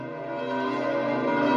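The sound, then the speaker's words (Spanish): The large bells of St. Peter's Basilica ring together in a sustained, overlapping peal while the Pope gives a blessing, their rich metallic tones gradually swelling slightly louder, with no voices present. “Mientras escuchamos el tañido de las campanas de la Basílica de San Pedro, el Papa bendice a todos.”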